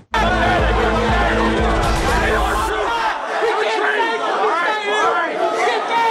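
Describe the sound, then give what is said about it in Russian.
A loud, agitated crowd of Trump supporters protesting on 6 January 2021 shouts and yells over one another in a dense, continuous roar, with a heavy low rumble underneath for the first few seconds. “Перцовый газ, алюминиевые трубы и толпы разъяренных избирателей.”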